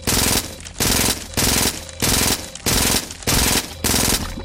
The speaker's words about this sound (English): Uzi submachine gun.